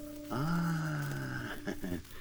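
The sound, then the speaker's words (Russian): A single long, loud snore drones for about a second with a low voiced rumble, then trails off into a couple of short snorting breaths, with no talking. “О, храпит кто-то.”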